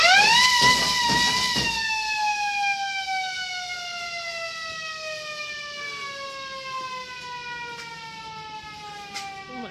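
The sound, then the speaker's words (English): A loud fire engine alarm siren being demonstrated in a museum, opening with a few quick pulsing bursts before settling into one long wail that slowly sinks in pitch as it winds down. “He starts by demonstrating the fire engine alarm.”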